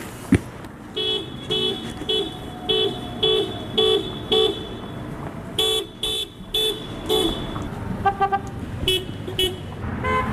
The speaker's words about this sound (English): so I have resumed my Honk for Gaza ceasefire sessions on the corner of East Washington. Here's a highly edited report from some of the 63 cars who honked for a ceasefire in Gaza this week.